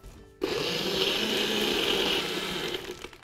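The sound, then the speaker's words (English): A blender motor kicks on abruptly and runs steadily for about three seconds, a loud whirring roar with a grinding, rattling texture as large ice cubes, rum and pineapple are churned, easing slightly at the end. “And just blend it up, I'm assuming?”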